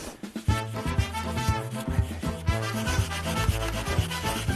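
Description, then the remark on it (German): A saw rasps back and forth through dense packed snow in quick, steady strokes. It is fairly loud, with a scraping, grinding texture and no voices. The saw is cutting out a first block, about 30 cm deep, for building an igloo. “Es fühlt sich ja abgefahren an, durch Schneesägen.”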